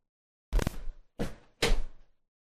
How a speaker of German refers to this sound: Mal kurz anders hinsetzen. Der Stuhl schreit auch um Hilfe.